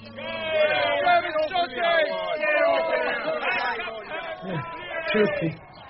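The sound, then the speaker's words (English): A loud crowd shouting angrily at the Queen as she tries to gain access to the abbey, many voices overlapping in a continuous, rising and falling roar of jeers and cries such as "Go back to Pergamon" and "Shame" that never lets up. “Someone is shouting, "Go back to Pergamon," and others, "Shame."”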